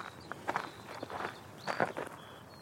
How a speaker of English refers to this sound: And that crunching sound means that I'm back on a farm track in the east of England, UK.